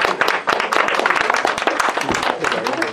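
Sustained audience applause of thanks for a teacher and an office manager, many hands clapping in a dense, steady patter at fairly loud level with sharp individual claps standing out throughout.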